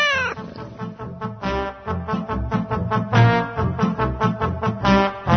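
A cat meows in a series of loud, drawn-out, tonal cries that rise and fall, continuous, over a rhythmic, music-like background.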